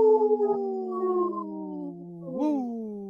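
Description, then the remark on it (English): Several voices imitate a wolf howl together in long, overlapping, gliding tones that swoop upward into a loud 'woo' near the end. The howling is steady throughout, with no one speaking. “This portion of the show is supported by Howling for Wolves, protecting wolves for future generations. Howl! Howl! Woo!”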